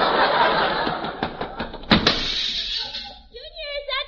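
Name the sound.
door slammed shut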